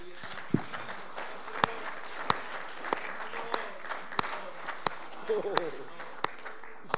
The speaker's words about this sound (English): Let's clap our hands tonight.